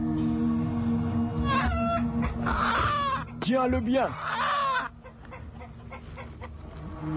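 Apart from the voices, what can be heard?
rooster squawking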